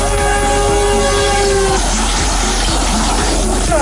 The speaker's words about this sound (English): You're stuck on the railroad tracks and there's a train coming. Sure, it sounds fictitious, but there was actually a rescue.